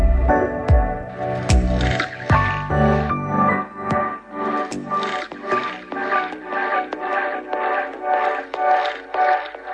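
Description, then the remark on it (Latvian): A bright, ringing voting bell in a parliament chamber, rung before a vote on a proposal, sounds for about ten seconds, opening with a few uneven strikes and then settling into a rapid, steady pulse of chiming tones, with no voices over it. “Lūdzu zvanu”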